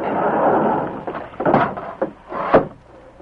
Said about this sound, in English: Now we'll close and bolt the door.